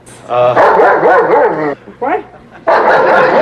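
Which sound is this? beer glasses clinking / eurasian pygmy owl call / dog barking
dog barking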